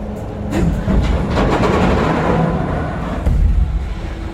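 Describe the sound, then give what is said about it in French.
An aircraft carrier catapult shuttle rolls back along its track from the front of the ship toward the aircraft about to be launched, on a deck a few tens of metres above: a loud, steady mechanical rumble, like a rail car, scattered with sharp metallic clicks and swelling slightly near the end. No voices. “ça c'est le bruit, ce qu'on appelle le chariot qui ramène la catapulte de l'avant du bateau vers la position près de l'avion”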